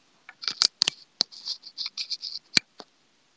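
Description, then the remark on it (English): Crisp clicks of typing on a new computer keyboard, delivered the day before, come in a quick, uneven flurry of keystrokes, a few sharper taps standing out, with no voices. “何の音? キーボードの音です。”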